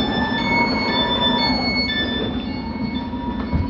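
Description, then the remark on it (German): An S-Bahn commuter train, line S41 Ringbahn, rumbles steadily at track 1 of a station platform, with a low continuous drone and faint high-pitched tones and squeals from the wheels and brakes, fairly loud throughout. “auf Gleis 1, S41, Ringbahn über Ostkreuz, Neukölln, Südkreuz.”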